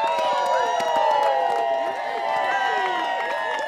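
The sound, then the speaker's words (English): A large crowd at a town party cheers loudly and continuously as a man races on snowshoes down a muddy backyard track, with overlapping shouts, whoops and scattered clapping forming a dense, excited roar that stays strong throughout. “He races down the muddy track with snowshoes on, and the crowd goes wild.”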